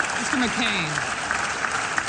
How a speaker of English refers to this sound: Colleagues applauded before listening to him blast a growing partisan divide.